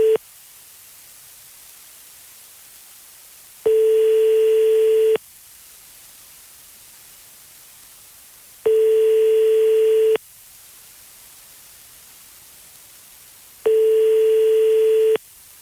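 A telephone ringback tone as a number is dialed live from a radio studio: a steady mid-pitched beep lasting about a second and a half, repeating every five seconds over a constant faint hiss, with no one speaking.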